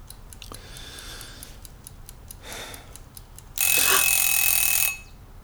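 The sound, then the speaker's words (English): A wind-up egg timer ticks steadily, then goes off with a loud, bright metallic ringing that lasts just over a second before cutting out. No voices. “It's an egg timer. It's not exact.”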